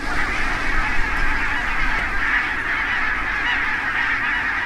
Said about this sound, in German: Es ist ein Naturschauspiel. Zu Tausenden steigen sie auf. Nonnengänse in Westerhever. Soweit das Auge reicht, laufen und fressen die Tiere auf Grünlandweiden.